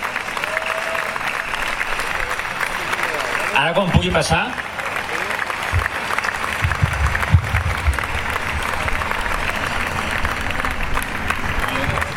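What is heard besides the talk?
audience applause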